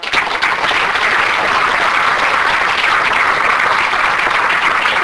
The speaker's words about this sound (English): Thank you for cheering for God, because it's not me.